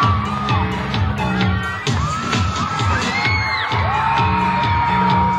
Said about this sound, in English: Teenagers screamed in anticipation. The lights flashed and the music started.